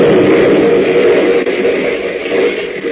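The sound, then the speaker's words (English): The blazing roof of a burning building plunges down onto Superman's head and shoulders in a loud, sustained roar, a dense rumbling wash of noise that fills the whole stretch without a break. No voices are heard. “Swiftly covering his unconscious friends with his brilliant red cape, Superman stands above them, shielding them as the blazing roof plunges down with a roar upon his head and shoulders.”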